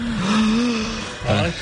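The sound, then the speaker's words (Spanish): A voice imitates the heavy breathing of someone sleeping at night with the mouth slightly open, which is not snoring: a long, steady, droning low hum, then a short second burst after a brief pause, loud and rough like a snore. “I llavors, clar, deixes la boca una mica oberta i comença a entrar l'aire d'una manera diferent.”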